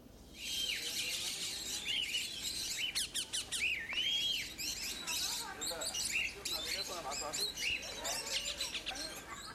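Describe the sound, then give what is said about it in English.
Lovebirds and parakeets chirp and tweet continuously in a bird sanctuary near Khartoum, Sudan, many overlapping bright calls and whistles forming a busy chorus with no pause throughout. “Here, visitors can feed lovebirds, parakeets, rosella birds, and many more.”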